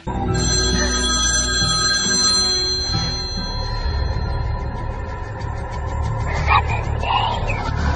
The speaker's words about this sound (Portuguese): E adivinha se assim que ele entrou no banheiro... Ah, o telefone tocou.